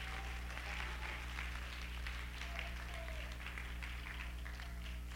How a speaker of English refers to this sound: Oh, clap your hands.